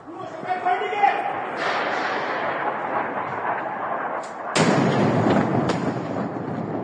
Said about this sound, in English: Explosions like this one have kept Iranians awake all night. Yesterday, Tehran was hit hard. Nearly all corners of the capital came under attack.